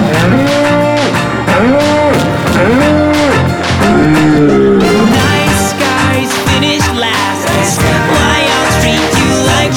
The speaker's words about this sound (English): Wait, let me speak your language. Cows go moo.